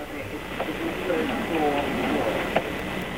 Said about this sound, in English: Sound of a busy AT&T control room at work.